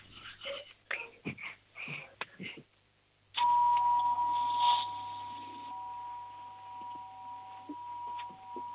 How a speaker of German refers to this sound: Machen wir mit der Türklingel weiter.